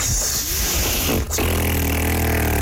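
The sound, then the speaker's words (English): A failed attempt at whistling: a steady, breathy rush of blown air with no clear note, a brief catch partway through, then a faint, wavering hum underneath as the blowing continues. “A fact about me that surprises people is that I don't know how to whistle. Yep, it mainly just sounds like.”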